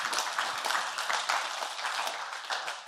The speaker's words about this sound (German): Applaus für alle, die etwas gesagt haben heute Morgen.